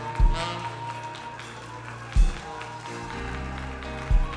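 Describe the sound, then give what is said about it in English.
An audience claps hands to the Lord in praise in a dense, continuous patter over sustained music, with a heavy low thump landing roughly every two seconds. “Come on, clap your hands.”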